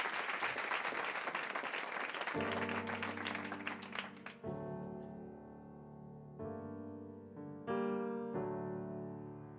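Loud, dense audience applause fills the opening seconds, then thins out as sustained instrumental chords begin and carry on alone, changing pitch every couple of seconds.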